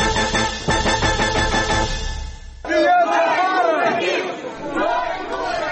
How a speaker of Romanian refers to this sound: Scandând "Noi nu plătim", o mulțime convocată de platforma DA a demonstrat azi lângă sediul președinției în capitală împotriva promulgării de către Nicolae Timofti a celor 7 legi adoptate în grabă de guvern